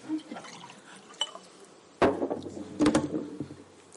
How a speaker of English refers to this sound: I've got my rather charming little jug of water.